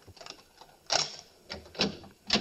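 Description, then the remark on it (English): A door being opened with a key: faint mechanical ticking gives way to four sharper latch-like clicks and rattles at irregular intervals, with no voices. “Open the door, Howard. Open it.”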